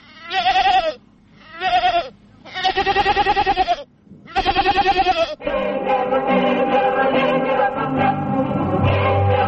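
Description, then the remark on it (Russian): A goat bleats four times in close succession, loud, each call a wavering, nasal cry, followed by a denser, busier stretch of sound with no one talking. “Но все же, прежде всего, коза – домашний скот.”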